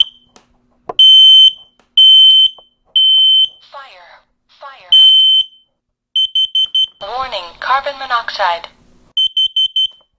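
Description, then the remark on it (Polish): A dual smoke and carbon monoxide detector's test alarm, set off by pressing its test button: loud, shrill electronic beeps, first several long tones, then bursts of rapid short beeps, with a voice briefly sounding partway through. “Mamy, mówię, czujki dualne, czyli gdzie wykrywają nam tlenek węgla i dym.”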